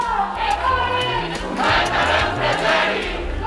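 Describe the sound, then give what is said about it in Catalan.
A crowd of student demonstrators shouts and chants together in loud, overlapping voices, with rhythmic swells of yelling rising every second or so over a steady, dense roar, during a morning march by University of Girona students through the city streets, part of a strike called across Catalonia. “Crits aquest matí és un moment de la manifestació que han fet els estudiants a la Universitat de Girona pels carrers de la ciutat en el marc de la vaga convocada a tot Catalunya.”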